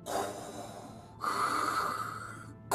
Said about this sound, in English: What is that? Suddenly, they heard the deep breathing of a distant robotic shark creature known as... Oh no, I heard of this one. It's Shark Gator.